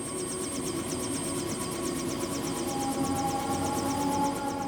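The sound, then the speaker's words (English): A hijacked helicopter descending at a prison holds steady in a hover, its rotor drone and engine whine constant and fairly loud, with a rapid rhythmic pulsing and no sense of approach or departure. “And I hear the chopper, the rotor, in place. It's not moving.”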